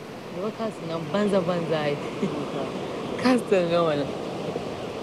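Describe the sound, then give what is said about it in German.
A steady wash of ocean surf rolls on at a beach near an old castle, fairly loud and continuous, while a couple sitting on the beach after a guided tour talk over the top of it. “sitzen nach der Führung am Strand und schauen aufs Meer.”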